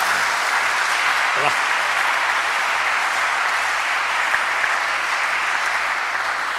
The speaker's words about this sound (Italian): Un applauso possiamo farglielo, dai.